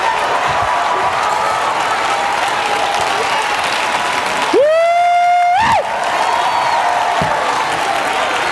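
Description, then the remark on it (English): A large audience claps and cheers steadily throughout, giving praise to the Lord, a dense wash of applause, with one loud, sustained high tone rising out of the noise for about a second midway. “Give the Lord a praise.”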